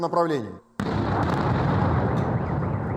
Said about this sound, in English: Explosions struck in Ukrainian-held parts of Donbas following Russia's regrouping.